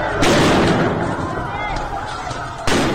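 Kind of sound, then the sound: impact, gunfire at street protest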